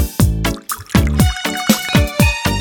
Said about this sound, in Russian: Ну, наливай, что ли